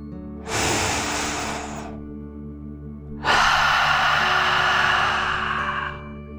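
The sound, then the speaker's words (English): A deep 'dragon breath' in a relaxation breathing exercise: a long, airy inhale lasting over a second, a brief pause, then a longer, louder breathy exhale, both broad and hissy, with a soft steady hum underneath. “Deep breath in and out.”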